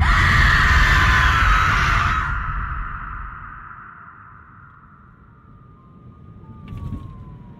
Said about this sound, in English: And as he watches, she opens her mouth and she screams.